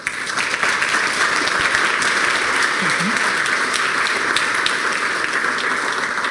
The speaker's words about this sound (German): Ja, einen herzlichen Applaus für Thomas Barth.